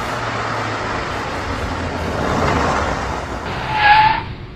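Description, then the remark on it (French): The Batmobile's tires screech as it skids to a stop when a police officer orders it to stop for driving 150 km/h over the speed limit. Broad roaring road noise swells, then peaks in a short, sharp squeal near the end. No one speaks. “Mais regardez là-bas une autre voiture, c'est la Batmobile. Arrêtez-vous!”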